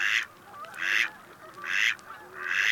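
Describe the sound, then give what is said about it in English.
Male mallard ducks on a pond, arguing among themselves, give four raspy, nasal calls in steady succession, moderately loud, with no talking. “sounds, especially when they are arguing among themselves.”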